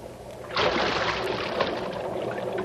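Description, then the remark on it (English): A sudden heavy splash as a person drops about 12 feet down into sewer water, followed by a couple of seconds of loud churning and sloshing, with no voices. “Come on in. The water's fine. It's about a 12-foot fall. Stand to the right. I'm coming down.”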